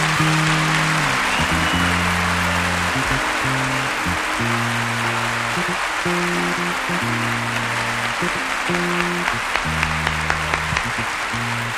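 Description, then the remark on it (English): A concert crowd at the Olympia in Paris applauds the orchestra steadily and loudly, a dense wash of clapping that carries on throughout while the band keeps playing low, sustained notes underneath. “Avant de finir, je voudrais bien que vous fassiez un grand applaudissement pour la belle orchestre de l'Olympia de Paris, que c'est magnifique, s'il vous plaît.”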